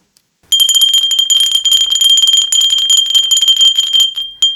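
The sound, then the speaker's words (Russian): A clay bell rings steadily for about four seconds, a bright sustained tone with rapid tinkling strikes, fairly loud, ending with one last clear ring after a brief pause. “Это колокольчики из глины.”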